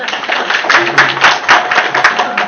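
A crowd applauds with steady, dense clapping that holds at a fairly loud, even level for a couple of seconds, full of many quick overlapping hand claps with no pauses.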